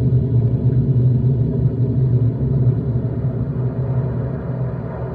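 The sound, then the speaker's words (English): A deep, continuous rocket engine rumble from the Apollo 11 liftoff roars steadily for the whole stretch, heavy in the low end and loud, fading only slightly near the end, with no voices over it. “Liftoff on Apollo 11. Tower clear.”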